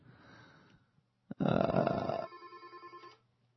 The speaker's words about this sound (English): Ah, phone's ringing already.